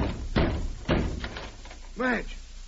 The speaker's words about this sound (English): Look here, I'm worried. I think we'd better break the door in. Wait, I don't want you busting my doors down.